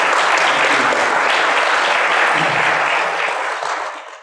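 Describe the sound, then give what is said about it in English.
An audience at Cornerstone applauds loudly for a guest speaker, a dense wash of many hands clapping together, holding steady for several seconds before gradually fading out at the end. “Will you give him a round of applause for coming tonight?”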